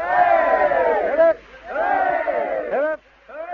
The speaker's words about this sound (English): And I think all those gathered, there must be at least 100 people here, family, friends, of course, press, and, well, my goodness. I think we should have another 3 cheers for the bride and groom. How about it? Hip hip!